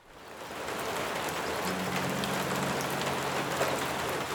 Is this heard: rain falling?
yes